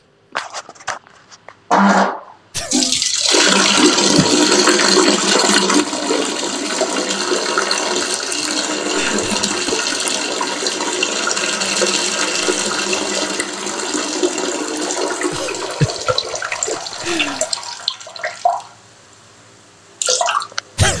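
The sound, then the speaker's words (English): Someone urinates into a toilet: a steady splashing stream of liquid hitting water for about fifteen seconds, loud and continuous before tapering off and stopping. “Now, may not be the longest, but I got quite a bit of enjoyment out of this piss.”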